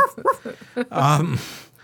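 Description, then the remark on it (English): A person imitates David Sanger's female dog with a few short yips followed by a longer whining howl, fairly loud, with no real dog present. “did such an excellent impression of David's dog”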